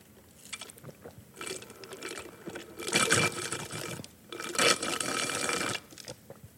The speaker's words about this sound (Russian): Я, пожалуй, смочу горло. Вы не против, надеюсь?